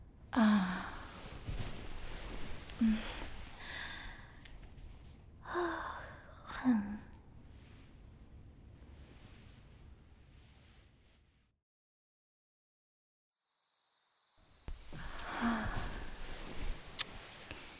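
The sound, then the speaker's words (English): A man snores loudly, a series of rough, rasping breaths at irregular intervals, falling briefly silent before the heavy snoring starts up again. “Why is he fucking snoring so much?”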